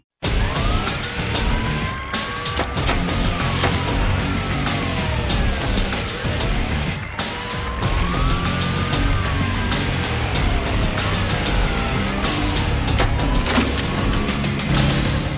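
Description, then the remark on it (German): A loud motorcycle engine in the intro sequence of a mid-2000s video game revs and roars continuously, its pitch sweeping up and down as it speeds past, with skidding tire noise mixed into a dense, busy soundscape. “Allein wenn du das, die Intro-Sequenz anschaust mit dem Motorrad.”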